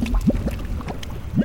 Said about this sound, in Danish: Men hov, der kommer olien op af jorden.